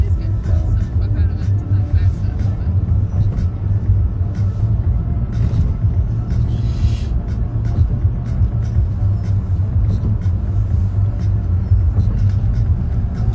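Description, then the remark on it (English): A car drives steadily over road bumps on an interstate, a constant low tire rumble broken by a regular series of soft thumps every second or so, loud and continuous throughout. “I love the sound of those bumps on the interstate.”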